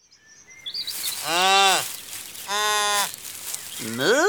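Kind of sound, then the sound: animal, calf mooing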